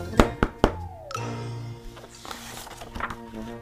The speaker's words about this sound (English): Bear was admiring his cupcakes when there was a loud knock on his front door.